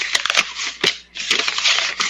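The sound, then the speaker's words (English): A sheet of paper rustles and crinkles, handled to imitate a newspaper, in dense crackly bursts with a brief pause midway before the crumpling resumes. “I'm going to imitate it with a sheet of paper.”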